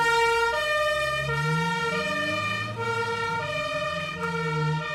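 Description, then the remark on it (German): A loud two-tone ambulance siren alternates steadily between high and low pitches, with a low engine rumble underneath and no one speaking, as the ambulance with blue lights takes a patient to a specialist clinic. “Mit Blaulicht und Tatütata wurde mein Papa in eine Spezialklinik gebracht.”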